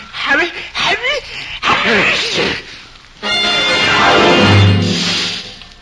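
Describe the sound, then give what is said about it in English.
A voice acts out a sneeze by Johnny, standing invisible right by a huge pixie's ear. A few rising, wavering breathy gasps build up, then comes a loud, long, hissing burst that holds steady for a couple of seconds before fading. “The huge pixie reached out in the direction of the sneeze, and because his arm was so long, he grabbed Johnny before he could move.”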